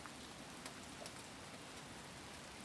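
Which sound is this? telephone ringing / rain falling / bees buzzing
rain falling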